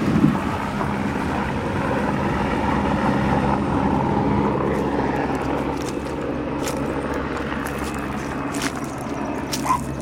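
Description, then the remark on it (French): A steady, loud mechanical drone of firefighter helicopters passing overhead, searching for bodies, fills the whole stretch, a deep rumbling engine hum with wind-like roar and no one speaking. “C'est les hélicoptères des pompiers qui passent tous les jours parce qu'ils cherchent encore des corps.”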